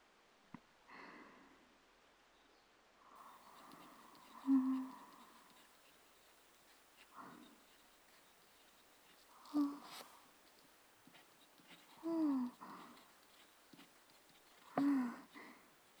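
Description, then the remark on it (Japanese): Quiet scratching of a pen, not a ballpoint, moving across paper as someone practises writing characters from a model, forming stops, flicks and sweeps, in short intermittent strokes every few seconds with faint rustling between them. “止め、羽、払いがボールペンの時より確実にできている。そのまま意識を集中させて書き続ける。”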